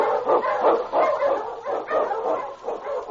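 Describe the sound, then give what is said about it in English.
A team of husky sled dogs in the Yukon, led by the lead dog King in Sergeant Preston of the Yukon, barks and yelps in a steady, overlapping chorus, loud, with no pauses and no voices over it. “On, you Huskies!”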